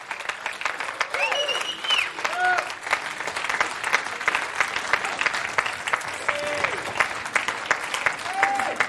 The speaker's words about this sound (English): So if you're a student and you've been with us at the Bible College, could you come and stand all along the front for me, please? Quick as you can. Brilliant. Give them a clap.